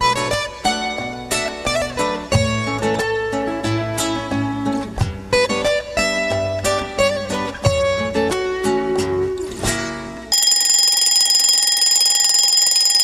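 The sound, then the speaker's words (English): A lively tune plays with plucked, bouncy notes, then cuts off as an alarm clock starts ringing loudly, a steady, shrill, continuous bell that fills the last few seconds. “She set her alarm clock and settled down to sleep.”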